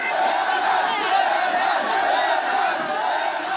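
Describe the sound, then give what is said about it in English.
Hundreds of village men crowded into a narrow street around a door with a cross in the village of Zafrana, Egypt, where Christians were praying, shouting "Leave, leave" together in a dense, continuous roar of voices, loud and steady throughout with no single voice standing out. “A video confirmed by the church shows hundreds of village men crowded into a narrow street around a door with a cross. They're shouting, "Leave, leave."”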